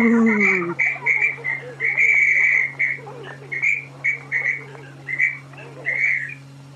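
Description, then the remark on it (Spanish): A school principal shrilly blows a whistle at a school as the children go to their classrooms, in a long series of short, sharp blasts, some drawn out slightly longer, over a steady low hum with faint voices in the background. “Mire, tío, esa que está ahí con el silbato es la directora”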